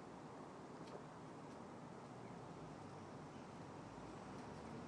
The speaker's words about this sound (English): Apart from the traffic noise, do you notice anything?